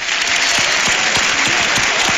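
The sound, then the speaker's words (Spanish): Loud, sustained audience applause: a dense, steady wash of many hands clapping, with a few sharper individual claps punching through at irregular intervals. No one speaks. The audience is welcoming Antonio Serrano, 'el niño del tambor'. “Así que, por favor, reciban con un fuerte aplauso a don Antonio Serrano, el niño del tambor.”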